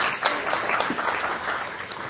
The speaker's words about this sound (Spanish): Muchas gracias, fuerte el aplauso entonces.